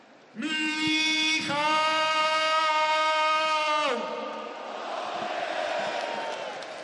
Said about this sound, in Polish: No i to są najbardziej gorące brawa. Tak jest, trener wicemistrzów Polski.